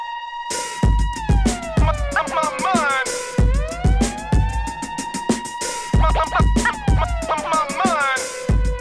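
Wailing sirens rise and fall over a pounding beat, chopped and stuttered by rapid turntable scratches that cut the tones into jerky bursts throughout the loud track.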